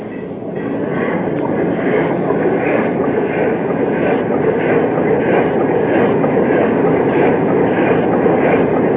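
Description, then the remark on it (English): A ship's steam engine runs hard at full steam astern to back away from ice ahead, a loud, steady mechanical rumble with a faint rhythmic chugging beat throughout, after a brief build at the start. No voices. “Try the engine. There, Chief. Yes, sir. We'll try the engine. Ready, Chief? Yes, sir. Full steam astern.”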